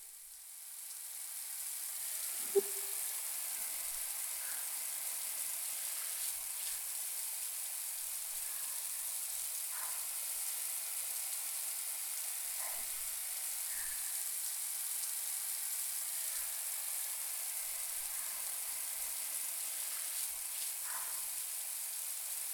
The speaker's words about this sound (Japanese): 次に頭をシャンプーしていきます。最初に軽くシャワーで濡らすよ。大丈夫かな。それではシャワーいきます。